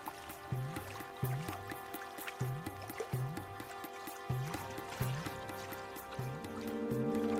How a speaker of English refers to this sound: Few images convey nature's wholesomeness so well as that of a babbling mountain stream.